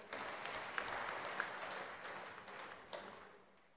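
A crowd claps steadily in a dense, crackling wash of applause with a few sharper individual claps standing out, holding fairly even before tapering off toward the end. No one speaks.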